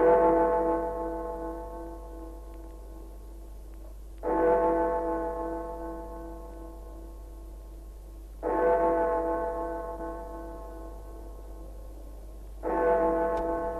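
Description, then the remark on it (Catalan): A deep bell of La Seu, Barcelona Cathedral, tolls slowly around 11 in the morning on Christmas Day 1933, four strikes about four seconds apart, each rich stroke ringing out and fading into a long resonant hum beneath a steady low drone. “Només les campanes de la Seu, trencant el silenci, senyalaven el pas del temps.”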